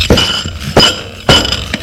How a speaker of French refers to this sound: Elle se lève. Et range l'assiette dans le tiroir.